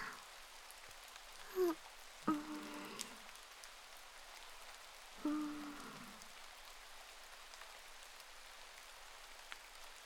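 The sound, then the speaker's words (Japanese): Steady rain falling with a continuous soft hiss throughout, interrupted by a few brief, tonal sounds near the start and middle, with no one speaking. “まあ雨嫌いじゃないから。”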